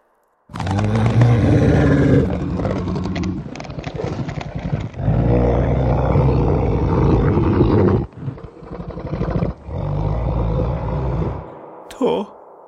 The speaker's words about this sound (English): There was a moaning, though, a shadowed shuffling as something clicked, popped, then a dinosaur growl.